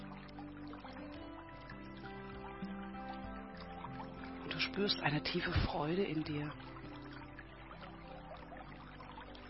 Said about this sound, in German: Du hast Lust auf etwas Kühles zu trinken und stehst langsam auf, streckst dich und läufst ganz langsam barfuß über diese Wiese in die Richtung, von der das Plätschern kommt.